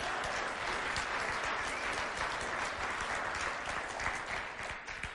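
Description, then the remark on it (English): A crowd applauds a pastor's family steadily for about five seconds, a dense, even wash of many hands clapping at a constant loudness with no voices over it. “So can we give them one more round of applause, please?”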